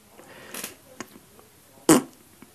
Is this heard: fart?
yes